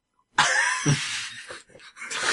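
Several rough, breathy burps follow one another over about two seconds, with a brief deeper gurgle early on and short gaps between the later, raspier bursts. No one speaks.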